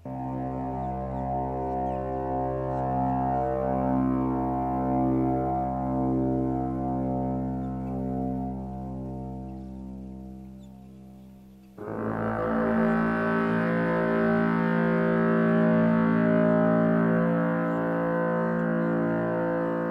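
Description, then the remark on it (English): Mighty blasts from a huge horn blown by two gods, one of them Orgmar, boom out as long, deep, sustained notes: one steady blast, then a brighter, louder one swelling in, thundering, with no voices; three notes thunder around Erin. “Then he and Orgmar, champion of the gods, stepped up to the mouthpieces and blew such mighty blasts that the three notes thundered around Erin like angry waves.”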